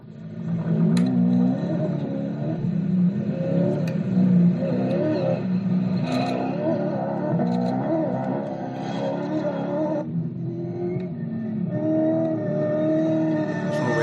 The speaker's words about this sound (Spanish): Y fíjate cómo suena esta bestia de 385 caballos, este Toyota que ganó este año el Rally Dakar, el Toyota Hilux.